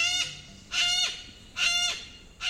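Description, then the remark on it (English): Yellow-crested cockatoo, a bird over a foot tall with snowy white plumage and a showy yellow crest, calls: loud, harsh, raspy screeches repeated about four times in a steady rhythm, each lasting a fraction of a second, with no talking. “Yellow-crested cockatoos are victims of their own charisma.”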